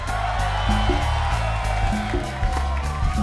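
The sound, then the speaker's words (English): A concert crowd applauds and cheers loudly and steadily, with scattered whoops, as the band's keyboard player is introduced, while the band keeps playing a low bass line beneath the noise. “Round of applause.”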